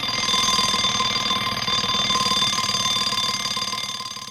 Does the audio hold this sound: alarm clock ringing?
yes